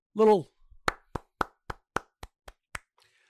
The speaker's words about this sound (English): Little golf clap for Justice.